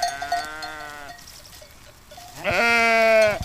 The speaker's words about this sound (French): Bonjour mesdames, mesdemoiselles les brebis.